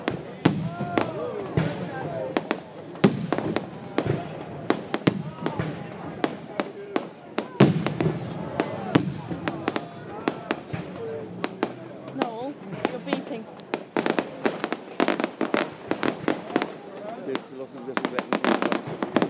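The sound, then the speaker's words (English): Red and white fireworks explode and spread out in single lights across the sky in a rapid, irregular barrage of sharp bangs and crackles, some louder booms standing out over a continuous rumble, with faint voices murmuring in the background. “When the explosion starts, they go off in all different directions.”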